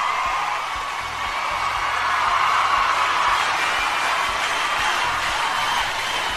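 Loud, sustained applause from a crowd welcoming a quiz champion onto a show's balcony, a dense steady roar of clapping that holds for several seconds with a few cheers and whoops mixed in, and no speech.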